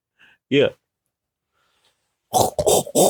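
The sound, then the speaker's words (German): A person imitates a pig, with one short voiced grunt, a pause, then a loud run of three or four rough, snorting grunts in quick succession. “Einmal sitzt das dicke Schweinchen neben mir.”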